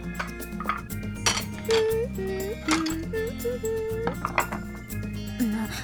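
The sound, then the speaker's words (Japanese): Dishes clink and clatter several times in quick, irregular bursts as plates are cleared and gathered into one place, the sharp ceramic knocks sitting over a steady melodic background. “皿を片付けて一箇所に集めるだけでしょ。”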